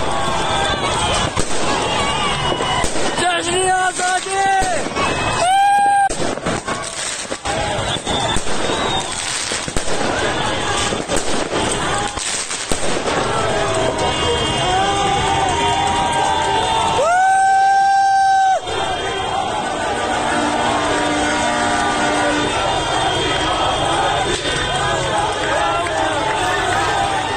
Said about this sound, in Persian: یکی از این شهرها بوکان بود که جشن آزادسازی هم گرفتن و شبانه کلی آتش‌بازی رو انداختن. البته از اون آتش‌بازی‌های انقلابی، نه که تو خیابون آتش می‌سوزونن، از اون آتش‌بازی‌های واقعی تو جشن‌ها که فشفشه و این چیزا هوا می‌کنن.